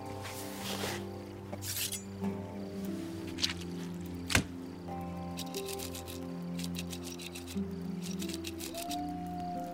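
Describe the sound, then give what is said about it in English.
Drawn-out wavering howls from a pack of coyotes overlap, with scattered yips and a rising call near the end, all without any talking. “What was that? Just some coyotes.”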